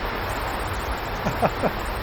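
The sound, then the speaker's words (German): Heavy rain pours down in a dense, steady hiss that holds at an even loudness throughout, with a couple of brief, faint voice-like sounds rising over it near the end. “Vielleicht hört ihr uns noch, also der Regen wird immer stärker.”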